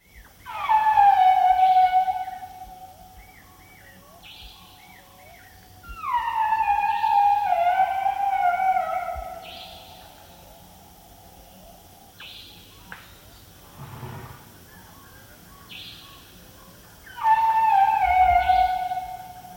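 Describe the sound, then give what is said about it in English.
Asian elephants calling, recorded in Nepal in March 1999 by animal recordist Linda McCauley: three loud, high, squealing trumpet-like blasts that slide downward in pitch, separated by quieter stretches of softer chirps and low rumbling. “we have a recording from March 1999 in Nepal by animal recordist Linda McCauley of the sound of the Asian elephant.”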